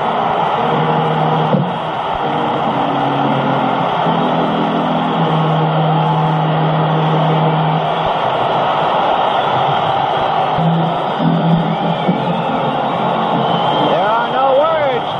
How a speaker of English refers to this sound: What's going on here? The sound of a cheering crowd tells it all. The Fernando Valenzuela magic is alive and well.